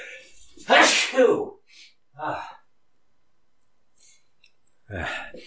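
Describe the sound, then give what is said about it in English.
A person sneezes loudly and sharply, with a quick inhale and burst followed by a smaller breathy aftershock, then a short pause before someone starts talking. “Felt that sneeze coming on for a while.”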